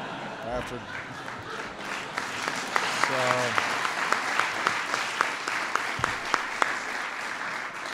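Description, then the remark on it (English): A crowd applauds steadily, a dense wash of many hands clapping with sharper individual claps popping out, and a brief vocal shout or cheer rising through the noise near the start. “The reason everybody's applauding is because they've heard him say that every day.”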